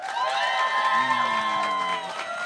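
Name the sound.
audience clapping and cheering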